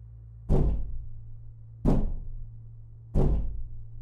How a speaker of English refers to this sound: Something then began to strike the door over and over again.